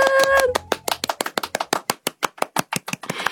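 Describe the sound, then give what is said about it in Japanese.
Applause: a fast, steady run of about twenty sharp, crisp claps at an even rhythm, with a brief bright tonal sound at the very start. “なので皆さん、ニッタンコブーストさんに勇気に拍手。”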